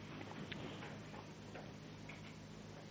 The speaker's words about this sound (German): Und wir fromme Gemeinde auf der ganzen Erde haben noch nicht mal gemerkt, dass da oben tickt.